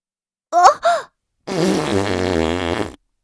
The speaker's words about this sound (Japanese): ああ、ダメ。少し気を緩めたら、すぐにおならが出ちゃうわ。